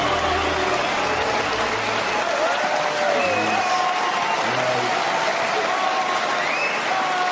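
Sustained applause from a large audience fills the space, a dense wash of clapping that stays steady and loud throughout, with faint voices and murmurs mixed into the crowd noise.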